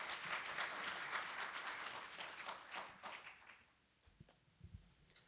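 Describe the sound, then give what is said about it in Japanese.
An audience applauds a guest speaker after a talk, steadily for about three seconds, a dense wash of many hands clapping, then the applause thins and fades, leaving a few scattered low knocks and rustles at the end. “盛大な拍手をよろしくお願いいたします。”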